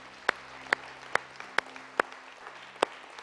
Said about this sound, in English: Come on, clap your hands with me right now.